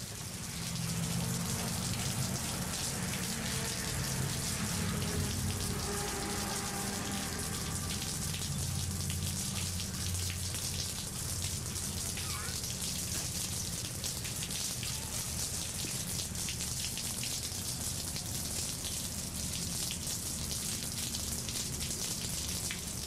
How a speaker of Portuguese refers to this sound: Outro grande encontro que se dá neste paraíso no meio do Atlântico é o encontro com a chuva.